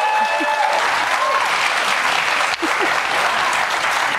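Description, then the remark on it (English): A crowd applauds steadily, a dense wash of clapping that stays loud and even from start to finish, with only a brief dip partway through. “I just had two acts. They didn't clap once for me.”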